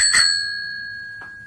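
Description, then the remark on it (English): The bell of a bicycle standing in a hall rings twice, clear: a bright ding whose metallic tone hangs and slowly fades, then a second, softer ding about a second later. No one speaks. “That's the bell.”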